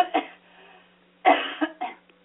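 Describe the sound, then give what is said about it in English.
A person clears their throat in a few rough, raspy bursts, with short pauses between them and no talking. “Why don't you tell a little bit more to my audience while I clear my throat?”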